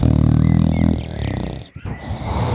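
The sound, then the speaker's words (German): A giant snores loudly enough to shake the whole house: a loud, deep snore rumbles with a growling rasp for about a second, then trails into a rough, breathy exhale. It is isolated, with no talking. “Und dann fängt er an zu schnarchen.”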